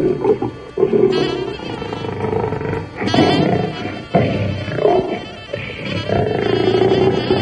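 A lion roars and snarls, loud and rough, in a run of several heaving bursts with short breaths between them and no talking.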